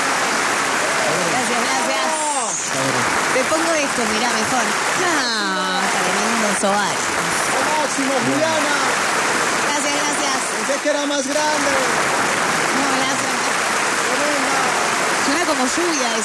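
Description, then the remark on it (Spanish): Loud, sustained applause from a large standing crowd fills the whole stretch, a dense rain-like clatter that never lets up, while a few voices speak and call out over it. “No, la gente está enloquecida. Sí, pero ya, ¿no? No, ahora hablar. Gracias. No. Están de pie.”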